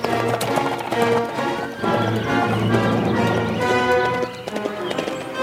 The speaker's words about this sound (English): For some time, the masked man stood watching his famous horse race down the hill.